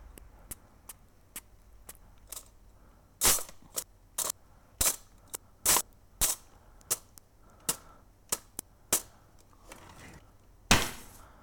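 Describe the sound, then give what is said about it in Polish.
A kitchen cutlery drawer being shut again and again, recorded as percussion to serve as a snare sound, each close a sharp, clattering metallic crack. The hits come in an uneven series of about twenty, some much louder than others, with no talking. “I to jest zamknięcie szuflady ze sztućcami. I to służy za ten snare.”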